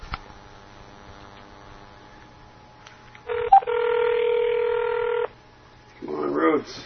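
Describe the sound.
After a quiet stretch, a phone line gives a click and one steady, loud ringback tone lasting about two seconds. It stops, and a voice begins speaking over the line.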